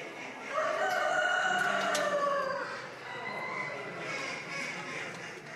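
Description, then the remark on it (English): A rooster at a poultry show, not pen trained and brought from an open shed into a cage that day for the first time, crows once, a loud drawn-out call lasting about two seconds, over a steady hubbub of indoor crowd noise and other birds. “People saying the wannabe runaway cock wasn't pen trained, just brought out of an open shed and into a cage today”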